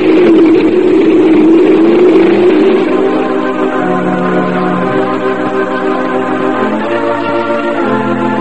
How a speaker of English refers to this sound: Come on, get on this motorcycle. Do what? Climb on a motorcycle behind me. Come on, get on.